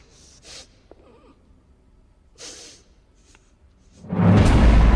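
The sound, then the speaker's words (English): A woman, whimpering, sniffs sharply at the air twice, a couple of seconds apart, with quiet breathy sounds between, before a loud rushing burst of noise abruptly takes over at the end. “She drops down her gun, switches it off, and begins to whimper. She sniffs at the air for clues, but Drake stands right behind her.”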